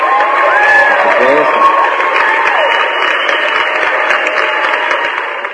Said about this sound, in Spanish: Dice, muchas gracias y un aplauso a mis amigos de